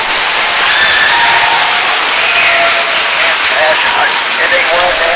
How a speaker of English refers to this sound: And this is the applause from Calolzio Corte, Italy.